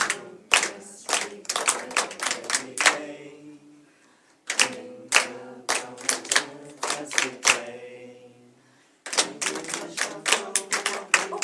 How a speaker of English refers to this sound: Do you see how just that little bit of clapping actually does help? Yeah, so let's go from the beginning again. Let's clap the rhythm. Ready? One, two, three, and.